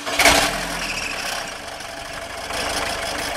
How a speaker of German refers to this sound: Unverkennbar der in Verruf geratene Dieselmotor. Winken da nicht Fahrverbote und dergleichen Unheil mehr?